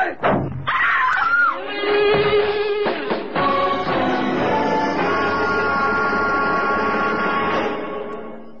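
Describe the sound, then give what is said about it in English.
A car door slams hard into a man's solar plexus with a sharp, heavy thump, quickly followed by a pained cry, then a long steady tonal drone carries on loudly to the end. “I caught the car door right in the solar plexus.”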